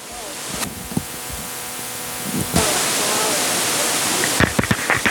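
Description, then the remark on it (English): Steady, hissing rush of shower water runs, growing fuller partway through, with a few dull knocks and bumps near the start and again near the end. “My hair is sticky. I need a nice long shower.”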